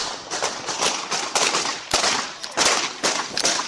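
gunfire

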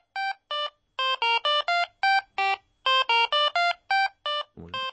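mobile phone ringtone

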